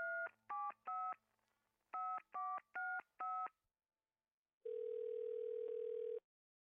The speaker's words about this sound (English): She grabbed the cordless phone and dialed a familiar number.